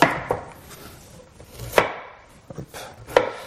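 A knife chops food into sticks on a cutting board in sharp, irregular strikes, with several louder thwacks standing out over softer scraping and tapping. No one speaks.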